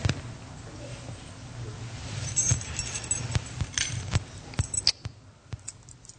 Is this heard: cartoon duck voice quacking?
no